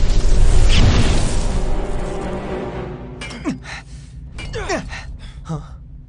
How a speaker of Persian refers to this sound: لابد صدای انفجار رو شنیده، داره میره سمت کاوشگر.